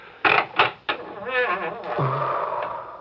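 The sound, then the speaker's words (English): A creaking door opening: three sharp clunks from the latch, then a long, wavering creak that settles into a low groan. It is loud, with no voices. “Here, I'll open the door.”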